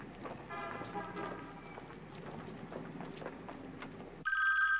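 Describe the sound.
Busy street ambience with murmuring voices gives way abruptly to a loud, close telephone ring near the end, a bright electronic trill cutting in at full volume.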